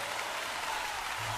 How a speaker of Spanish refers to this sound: Un aplauso para todos ellos.